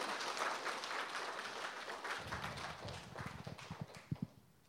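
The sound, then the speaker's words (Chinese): Audience applause at a church service for church members, a dense wash of many hands clapping that gradually thins out, ending with a handful of separate, sharper claps before fading. “谢谢，来给他们掌声好吗？”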